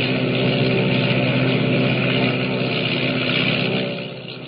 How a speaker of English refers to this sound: Motors roaring, the giant seaplane skims across the water and rises into the dark, foreboding sky